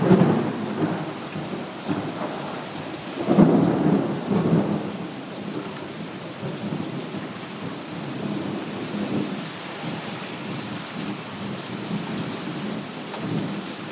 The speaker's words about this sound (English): Okay, this is a storm from Tropical Storm Beryl. I should say Tropical Depression. And it hit Jacksonville, which is 2 hours away from where I am. But this is the rain we're getting and the thunder.